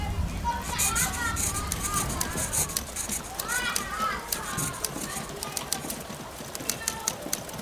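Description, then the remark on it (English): Young girls play jackstones in a small, closed room crowded with about 25 women and children on a rainy day in October 1942, their high voices chattering softly while small sharp clicks and taps land in an irregular patter, some in quick bursts. “The sewing machine clatters and someone types while young girls play jackstones and read stories aloud.”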